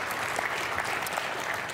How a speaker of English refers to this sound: So can you give all of them just a round of applause and thanks for everything they do?